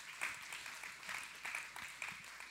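A crowd claps steadily for a couple of seconds, many hands blending into a dense crackling patter with a few sharper claps standing out at a moderate level.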